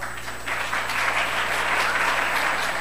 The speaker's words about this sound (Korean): 자, 우리 아이들 인사할 때 큰 박수로 경계해 주시면 고맙겠습니다.